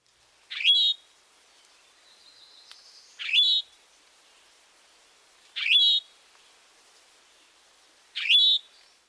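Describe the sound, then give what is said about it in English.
A rufous-sided towhee gives four loud, upslurred call notes, evenly spaced about every two and a half seconds, each a short buzzy rising "tow-hee" with nothing else around it. “The towhee call note is a loud towhee.”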